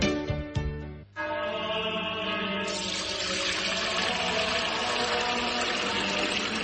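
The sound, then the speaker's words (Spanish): After a brief tonal sound at the start, pure Fuente Umbría spring water pours in a steady, continuous stream, fairly loud, with a gushing hiss that brightens partway through and runs to the end. “es que no nos quedaba agua bendita. Agua pura de manantial Fuente Umbría.”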